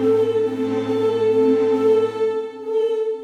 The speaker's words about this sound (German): Okay. So ein Furzgeräusch danach.